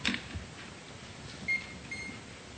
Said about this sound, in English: May it please the court. I'm going to be using a PowerPoint presentation, and a beeping sound comes from the equipment.